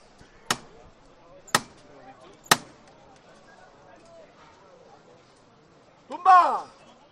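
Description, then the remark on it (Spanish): In Seville on Holy Wednesday, a metal knocker strikes a procession float three times to call a change of costaleros (bearers), sharp and loud, about a second apart, over a low murmur of crowd voices; a loud shouted call follows shortly after. “Y ahora parece que hay otro pequeño relevo de costaleros, van a llamar otra vez al martillo, escuchamos.”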